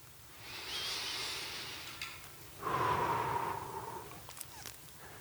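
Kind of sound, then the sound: human body sound, slow deep breathing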